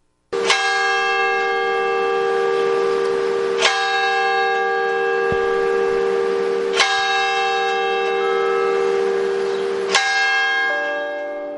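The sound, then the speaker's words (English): A large bell of the Mahaney Bell Tower in Jefferson tolls four times at slow, steady intervals, each strike loud with a long, humming resonance that overlaps the next. No voices are present. “That's the sound from the Mahaney Bell Tower, which we heard as we drove into Jefferson.”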